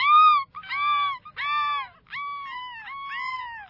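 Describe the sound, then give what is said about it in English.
Seagull calls along a beach, a series of about five loud, wailing cries in quick succession, each a drawn-out nasal note with almost no gap between them. “The gulls along the beach definitely look amused.”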